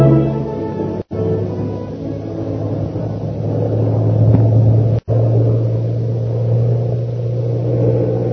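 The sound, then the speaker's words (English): A loud airplane engine roars steadily as Shanghai Lil stunts her plane to escape her pursuer, its droning pitch swelling slightly midway, broken by two brief moments of silence. No one speaks. “Meanwhile, Shanghai Lil continues her attempt to escape her pursuer by stunting her plane.”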